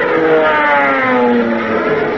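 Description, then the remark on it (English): An aeroplane engine sound effect for Tailspin Tommy in his aeroplane: a loud, steady droning roar with layered buzzing harmonics whose pitch bends slightly as it runs, with no voices over it. “Tailspin Tommy in his aeroplane.”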